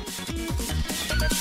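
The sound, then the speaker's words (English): Someone imitates a deer's scream with their voice, giving a quick run of short, wavering cries that rise and fall in pitch at a steady, moderate loudness. “what sound would you use for a deer then? Don't they just like kind of scream?”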